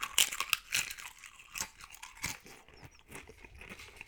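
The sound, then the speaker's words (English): Munching on crunchy chips, a steady run of sharp, crackly bites and chews coming in quick irregular bursts, fairly quiet, with no talking. “I mean, imagine 30 minutes of just munching chips and salsa.”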